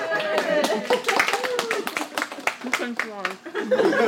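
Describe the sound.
Students at a Korean cooking class in Milwaukee clap in a quick, uneven burst of sharp hand slaps, with excited voices and chatter mixed in, as the teacher takes a bite of bulgogi with rice and chili paste on a lettuce leaf.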